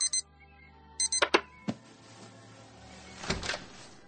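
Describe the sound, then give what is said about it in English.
An alarm clock's snooze alarm sounds two short bursts of shrill electronic beeping, followed by a few sharp clicks and knocks and then soft rustling movement. “That was the snooze alarm.”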